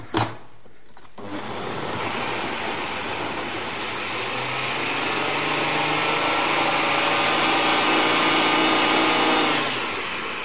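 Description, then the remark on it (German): A blender, lid on, mixing ingredients with added water starts with a brief clunk and then whirs steadily and loudly for about nine seconds, a dense motor roar with a low churning hum of liquid, before cutting off abruptly. “Deckel nicht vergessen. So. Und das können wir mixen.”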